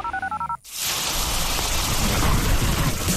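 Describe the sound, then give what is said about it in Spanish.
A quick run of electronic beeps cuts off into a sudden, steady roar of heavy rain, loud, with a low rumble underneath that suggests thunder. “Cuando llueve fuerte y se inundan las calles, nunca abras las tapas del alcantarillado para evacuar las aguas lluvia, ya que no está diseñado para recibirlas”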